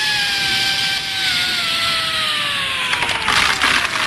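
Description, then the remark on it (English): An electric drill boring through a wall grinds steadily, its motor whine sinking slowly in pitch as it labours, with a rougher, crunchier burst of noise toward the end. No one speaks. “Plug in the drill.”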